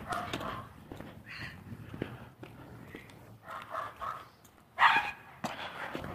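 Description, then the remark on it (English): Several dogs behind a fence bark in short, uneven bursts, with one louder, sharper bark standing out near the end over a low outdoor rumble. “A couple people with dogs are paying very close attention to the dogs behind the fence.”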